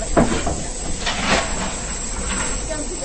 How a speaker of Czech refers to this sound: odkud ten den vyjížděl parní vlak do Mšena. Zrovna vyjížděl na nástupiště, když jsem se blížil k nádraží.